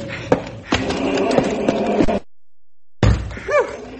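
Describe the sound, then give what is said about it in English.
The back door of a bank thuds shut, followed by a couple of seconds of metallic rattling like a lock being worked, then a pause and a sharp clack with a brief squeak. “There. I've locked the back door.”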